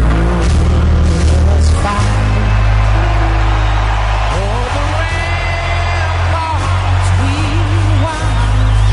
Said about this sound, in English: Yeah, so they were cheering the Commander-in-Chief, President Trump, during the national anthem.